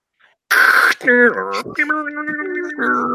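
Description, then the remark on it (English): A person vocally mimics a dial-up modem handshake: a burst of hissy static, then warbling, sliding tones and a steady electronic drone, all done with the voice for about three seconds. “He's dialing up with a modem. Beep boop beep boop beep boop.”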